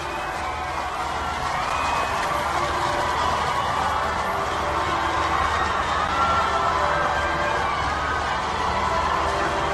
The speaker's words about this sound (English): The crowds are still cheering in the background